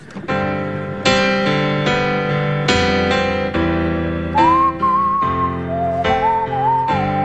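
A person whistles a wavering song melody over steady, full instrumental backing chords. The whistling enters partway through, with two clear phrases over the sustained accompaniment.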